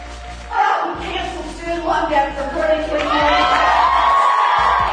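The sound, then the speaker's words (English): A large crowd at a Trump rally cheers and shouts, a dense roar of overlapping voices that swells after a brief lull and holds steady and loud to the end. “Unlike the massive crowd at the Trump rally, only 600 people showed up for Hillary Clinton's rally last night in Iowa.”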